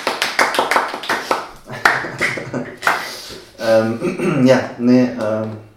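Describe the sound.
A quick burst of sharp, rapid hand claps for about two seconds, then people talking with a drawn-out, sing-song voice afterward.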